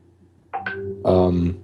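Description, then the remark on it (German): A short electronic phone notification chime: two quick rising tones followed by a louder, sustained harmonic tone, heard clearly over a low background hum with no talking. “Entschuldigung, ich weiß nicht, ob man das gerade gehört hat, die Benachrichtigung.”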